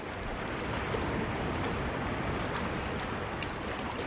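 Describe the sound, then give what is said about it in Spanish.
A steady, full-bodied rush of water and wind as a boat pushes across open sea waves on a 36-hour voyage to Isla del Coco, continuous and fairly loud throughout, with no voices. “Es un viaje de 36 horas sobre el mar.”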